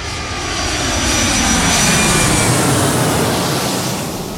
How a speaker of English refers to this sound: You might hear some planes.